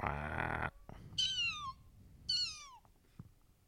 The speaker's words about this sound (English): That cat was diseased-looking. That cat was fucked up. It meowed so not cute at all. It was like, whoa. Yeah. It sounded like it was been smoking for...